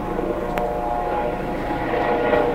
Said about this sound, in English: They've got police everywhere. Just about an hour ago, I walked through a churchyard and it's now cordoned off with the police at each entrance. The helicopter's still up. I'm not totally sure what's going on there.